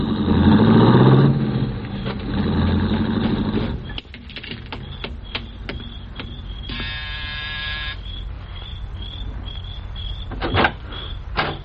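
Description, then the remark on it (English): A rented car drives off in the evening, its engine rumbling loudly for a few seconds and then cutting away, followed by a quieter stretch with scattered clicks and a brief buzzing tone. “An hour later, he came out and drove off again.”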